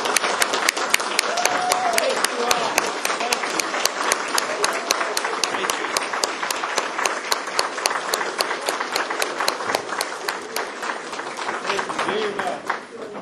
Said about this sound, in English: So if any of you here, and it may be every one of you, you stand up while the seated candidates, the elected officials, can give you a round of applause. Please stand up. Let's give them a hand, everyone.